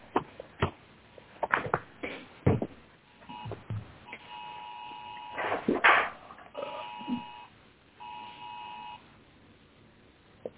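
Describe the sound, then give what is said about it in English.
Steady electronic beeps sound in a few sustained bursts, repeating at intervals, mixed with scattered clicks, knocks and rustling handling noise; no one speaks. “I heard beeping.”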